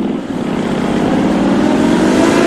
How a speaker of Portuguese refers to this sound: Minha magrela tá lá fora me esperando. Magrela? Tá namorando? Não é. É a minha moto. Comprei uma.